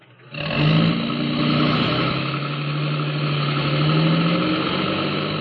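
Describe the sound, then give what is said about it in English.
A truck engine starts up after a brief pause and runs steadily, a loud continuous rumble with a low droning hum that holds to the end. No voices are heard. “Get in the truck.”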